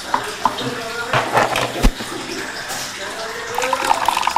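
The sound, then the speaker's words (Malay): A child splashes and plays in water, with irregular sloshing bursts and sharp slaps, while voices murmur and call out intermittently over the watery noise. “Dah, jangan main air terus.”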